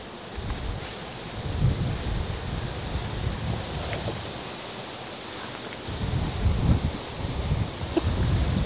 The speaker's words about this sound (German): So windig, dass es meine Frisur durcheinander gebracht hat und diese ganze Architektonik von mir noch nicht so gewohnt ist.